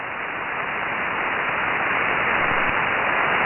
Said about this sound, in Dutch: En dan moet je rekenen dat ik hier een S7 aan storing heb.